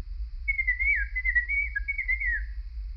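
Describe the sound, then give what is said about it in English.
A high, bird-like chirping whistle warbles and wavers in pitch for about two seconds, alone over a steady low hum, heard through a closed door to a room at night. “It wasn't a squeak, as I'd first thought. It was more like a chirp.”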